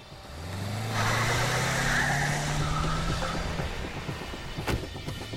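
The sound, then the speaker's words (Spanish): A car engine revs hard and climbs in pitch as the car is put in reverse and backs quickly toward a police patrol car, followed by a brief sharp knock before the engine settles back down. No voices. “Para ese momento, colocó su auto en reversa y retrocedió con rapidez hacia mi patrulla.”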